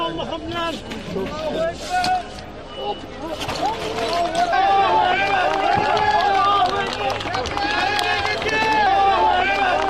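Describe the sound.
Dozens of firefighters and rescue specialists applauding after pulling a young boy out alive from under rubble, loud and sustained for the whole stretch, with many voices shouting and cheering over the clapping.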